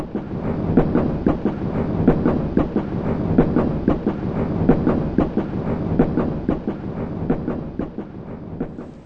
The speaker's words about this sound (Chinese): 不久，火车驶进了上海车站。上海车站像南京一样，也是人山人海。